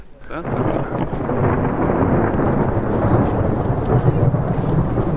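A deep, sustained roll of thunder rumbles steadily for several seconds, loud, its low boom swelling slightly toward the end with a hiss of rain underneath.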